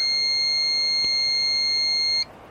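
A satellite phone, its antenna extended and its green button held down, emits a single steady, high-pitched electronic beep as it powers up, holding for about two seconds before cutting off abruptly, with no voices present.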